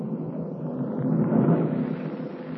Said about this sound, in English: A jagged streak of lightning splits the darkness and thunder crashes overhead.